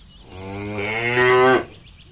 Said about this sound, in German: Auf einem Bauernhof gibt es auch viele Tiere. Zum Beispiel Kühe. Die sind schwarz-weiß gefleckt und machen...